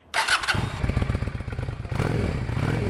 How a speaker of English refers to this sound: She has a cruiser. It's a Honda Shadow. It's brand new, pewter gray, and sparkly.